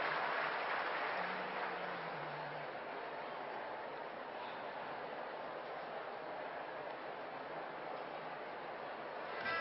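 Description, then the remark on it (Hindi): An audience claps loudly and steadily to thank Baba, a dense, continuous wash of applause that holds at an even level for nearly ten seconds without a break or any voices. “एक बार जोरदार ताली बजा के प्यारे बाबा को हम धन्यवाद देते हैं।”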